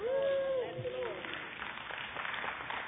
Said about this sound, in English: Thank you for clapping for a late bloomer. I really appreciate that.